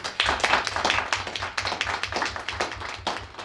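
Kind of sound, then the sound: crowd, audience clapping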